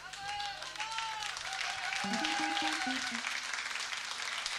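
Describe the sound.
An audience applauds loudly and steadily throughout, a dense wash of clapping from a crowd, with whoops and excited voices rising above it.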